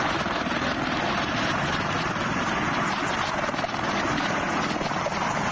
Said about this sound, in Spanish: donde los aviones siguen despegando y aterrizando como pueden, y donde los helicópteros militares escoltan a esos aviones sobrevolando continuamente la zona, como si de grandes moscas se tratara.